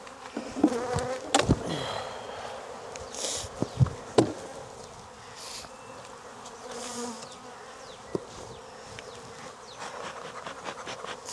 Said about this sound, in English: There's more bees in here, but it looks more complete.